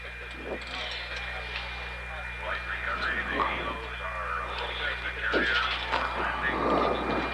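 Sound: helicopter in flight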